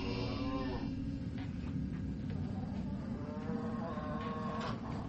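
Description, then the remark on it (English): Cows moo in long, drawn-out calls, one at the start and another near the end, over a constant low mechanical rumble that fills the background. “I'm done with my chores. With fewer cows, it doesn't take long.”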